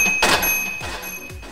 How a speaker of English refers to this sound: you never hear it in the game, but this cash register-like noise is going to be heard when an enemy passes by.